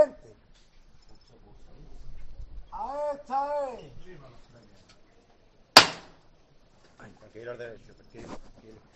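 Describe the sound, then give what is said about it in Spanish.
A single sharp, loud knock of the hammer calling the bearers of the pallium float of the Virgen de la Estrella brotherhood rings out between stretches of voices murmuring and calling in the background. “Llaman al martillo.”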